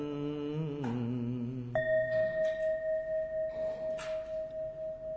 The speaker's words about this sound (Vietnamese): Gợi lòng theo tiếng chuông, nguyện người nghe tình thức vượt thoát nẻo đau